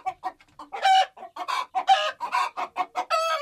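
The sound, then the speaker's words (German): Hens in a garden cluck in a quick, uneven string of short, nasal bursts, some louder squawks mixed in, ending on a drawn-out cackle. No one speaks. “Trotzdem sind die oft laut, weil sie oft gackern.”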